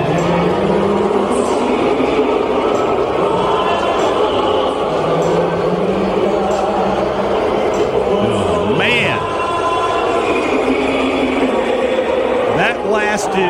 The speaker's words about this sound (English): During the entire national anthem, the Canadians booing the national anthem there during the first USA Canada hockey game earlier this week.